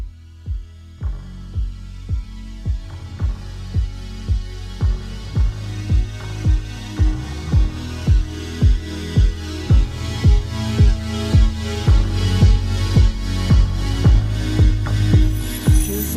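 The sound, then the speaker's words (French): A pop song's intro plays with no vocals: a steady, evenly spaced electronic beat over sustained synth tones, growing fuller and louder as it goes on. “Et justement, on s'écoute un titre en rapport avec notre sujet.”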